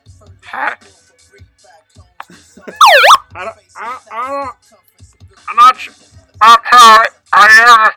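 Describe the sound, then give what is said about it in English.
A voice mimics the screeching microphone feedback heard when a man got the mic to do shoutouts before a game, with several rising and falling vocal whoops in short bursts, loud, some strongly sweeping like a siren. “And it sounded like, you know, like he got the mic and it sounded like there was like feedback. It was like, wah, wah.”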